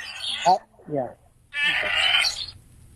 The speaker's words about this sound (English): How about a goat? You think it's a goat? What makes you think it's? Well, you're right.